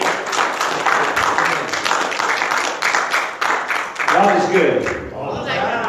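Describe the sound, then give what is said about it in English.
A crowd claps for the Lord in a dense, steady burst of applause lasting several seconds, with a few voices calling out over the clapping toward the end. “Give him one more hand clap.”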